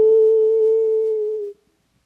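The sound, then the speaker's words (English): A human voice imitates a wolf's howl: a single sustained, steady mid-pitched 'woo' held for about a second and a half, dipping slightly at the end before cutting off into silence. “It wasn't coyotes, it was wolves.”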